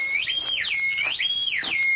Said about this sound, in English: As Ben drew near the house, a whistle broke the stillness of the night.